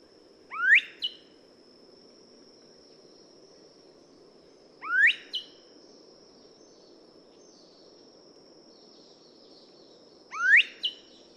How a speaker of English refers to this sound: It's another endemic species in Fiji, where it lives on only two tiny islands. This species is a vibrant green color, and the male has a yellow head. Here's what the velvet dove sounds like.